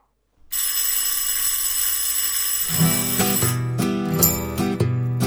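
A school bell rings continuously with a harsh, metallic clatter. Partway through, a song's instruments come in with a steady beat and keep playing under the ringing.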